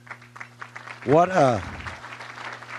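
A crowd at a Thanksgiving lunch claps steadily through the moment, with a loud, rising and falling shout or cheer bursting out in the middle before the applause carries on.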